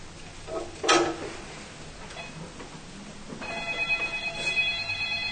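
A telephone rings with a bright, warbling electronic tone that starts partway through and pulses steadily until the end, following a brief clattering burst near the beginning. No one speaks.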